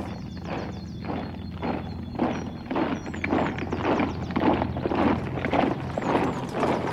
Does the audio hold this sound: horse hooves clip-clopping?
yes